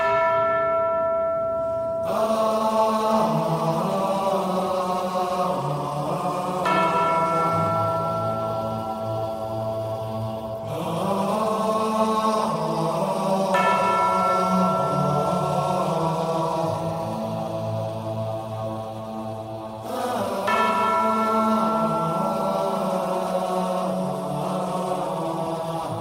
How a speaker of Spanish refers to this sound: Ya están sonando las campanas de tu sección.